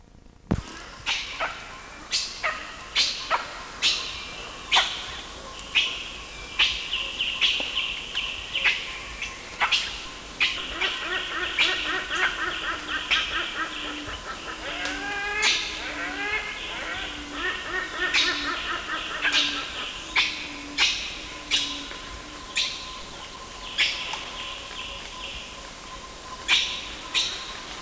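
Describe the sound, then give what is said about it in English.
Repeated high-pitched animal squeals, some in quick descending series, mixed with sharp, short barks scattered throughout, fairly loud and near, with fainter squeals in the background and no talking. “Male squeals, but I'm not certain who's giving them.”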